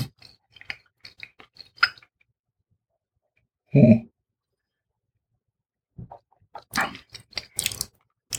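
Chewing of firm Gouda cheese: soft, moist mouth clicks and smacks in irregular bursts, a brief louder munch midway after a pause, then another stretch of steady chewing.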